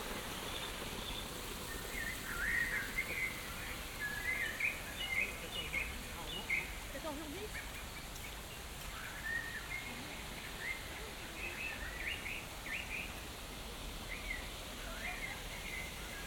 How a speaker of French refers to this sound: Si comme moi vous vous posez la question, ces oiseaux sont-ils authentiques ? Eh bien, je vous répondrai que non. En fait, ils ont mis des enceintes extérieures pour diffuser ce son. Donc en fait, ce sont des tricheurs.